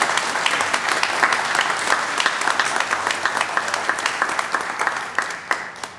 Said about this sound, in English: Wonderful, congratulations. Let's give them a round of applause for their achievements.